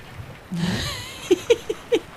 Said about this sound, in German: Hört man das Ziegen meckern? Jetzt kommen hier ein paar Ziegen vorbei.